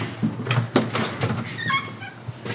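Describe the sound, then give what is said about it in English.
A couple of wooden dining room chairs are pulled up in a home in Colorado, 2 hours east of Denver, with several sharp knocks followed by a drawn-out, wavering squeak of legs scraping across the floor. “We pull up a couple dining room chairs, but we don't have long to talk.”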